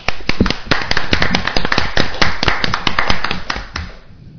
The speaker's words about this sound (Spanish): Y un aplauso para él.